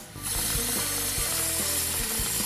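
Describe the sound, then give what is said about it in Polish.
Steady, loud sizzling of diced chicken seasoned with curry, garlic, paprika and turmeric, added to lightly fried vegetables in a pan as the heat is turned up, broken by a few sharp clicking knocks about every half second, like something being turned or scraped. “Kurczaka dorzucamy do lekko podsmażonych warzyw i podkręcamy ogień.”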